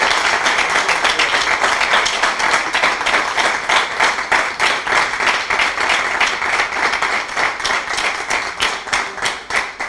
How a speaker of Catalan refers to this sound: Per tant, demano un aplaudiment per aquestes dones que tenim aquí.